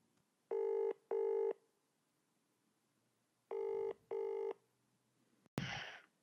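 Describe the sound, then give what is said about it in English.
A telephone rings in two paired bursts, a double-ring pattern repeated twice with a pause between, followed by an abrupt click and a short burst of noise as the call is picked up, at the start of a recorded phone conversation between a man and his father. “This next segment of the Magoos is a recording of a phone conversation”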